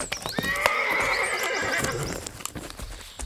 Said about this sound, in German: Da, endlich kommen Bibi und Tina auf ihren Pferden.